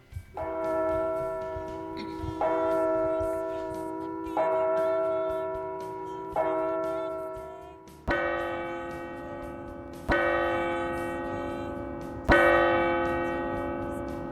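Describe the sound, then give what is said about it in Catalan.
A clock in Scrooge's home strikes the hour with seven slow, resonant bell chimes about two seconds apart, each tone ringing on into the next; the last three strikes sound fuller and slightly louder. “I al donar el rellotge a les campanades...”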